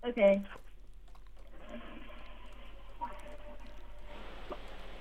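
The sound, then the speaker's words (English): A quiet toilet flush in a bathroom, heard over a phone call: after a brief noise at the start, a soft, steady rush of water rises and continues to the end, faint. “You have to prove you're in a bathroom. You have to flush the toilet.”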